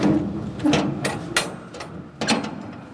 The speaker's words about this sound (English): pulls the large steel doors closed and fixes the wide latch. I'm just going to close it.